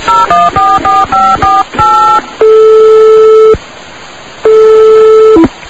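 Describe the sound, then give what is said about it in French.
A quick run of about eight short dialing beeps, then two long steady ringing tones separated by a pause, clear with no voices. “Passe-moi le téléphone, s'il te plaît.”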